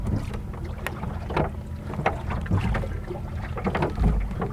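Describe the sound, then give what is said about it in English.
Oars row a wooden Drascombe longboat with all sails up through calm water between Little Cranberry Island and Mount Desert Island, with soft knocks and splashes recurring every second or so over a low, steady rumble of wind and water. No one speaks. “But one of the neat things about this boat, this Drascombe longboat, is you can row it as well. And I like rowing.”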